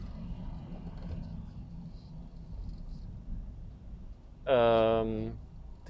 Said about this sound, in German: jetzt würde ich hier fast vom LKW überfahren. Vollidioten, ey.